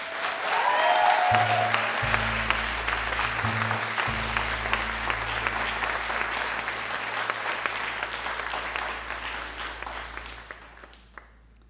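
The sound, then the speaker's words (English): Loud audience applause, a dense sustained roar of clapping that stays strong for about ten seconds before tapering off, with a low steady hum underneath. “This is the loudest applause I will ask for.”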